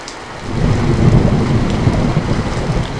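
Steady, dense rainfall with a broad hiss and patter, joined by a deep low rumble like thunder. No voices, just continuous, fairly loud storm sound.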